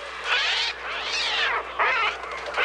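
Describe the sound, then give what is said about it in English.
Sounds from an early synthesizer, the Trautonium, mimic screeching seagull cries for Alfred Hitchcock's horror film The Birds: three loud, overlapping wails that swoop up and down in pitch, harsh and eerie, with no talking. “Instead, the sound of those murderous seagulls was made using an early synthesizer called the Trautonium.”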